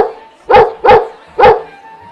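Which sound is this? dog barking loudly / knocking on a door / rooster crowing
dog barking loudly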